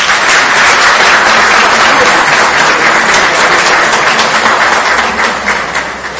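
A large audience applauds steadily, a dense wash of many hands clapping at once, loud and sustained before easing off slightly near the end.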